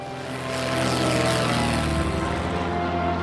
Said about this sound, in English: Lusaka traffic, Cessna Mike India Alpha, East tie down, departing runway 35, Lusaka. The plane speeds down the runway and lifts off.